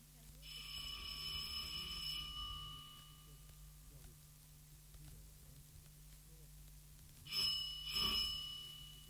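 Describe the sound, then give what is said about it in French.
A doorbell at a house door: a bright bell-like chime rings out with sustained high tones for about two seconds, then two quick rings follow near the end, over a low background hum and faint murmuring. “Il sonne.”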